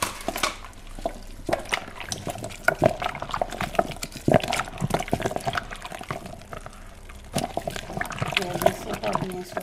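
Thick, creamy white baobab juice sloshing and splashing through a sieve, then poured into a container, with irregular gurgles, drips and trickles continuing throughout.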